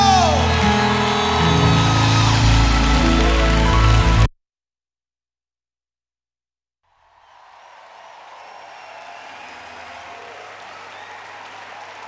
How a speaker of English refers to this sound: America, would you clap your hands for my new African brother